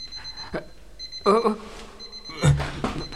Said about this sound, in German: Was ist denn das jetzt? Das ist... Dein bescheuerter Wecker! Wie kommt der denn hierher? Wo ist der? Ich habe keine Ahnung, das kommt von irgendwo da drüben.